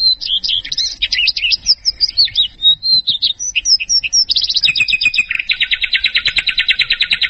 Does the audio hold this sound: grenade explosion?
no